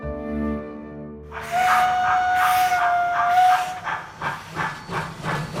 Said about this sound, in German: Mit der Dampflok.